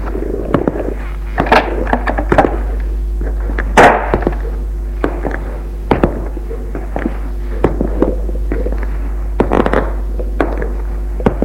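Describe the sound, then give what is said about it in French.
A bedroom door being opened, with a series of dull clunks and knocks spread over several seconds above a steady low hum, with no one talking. “Il ouvre la porte.”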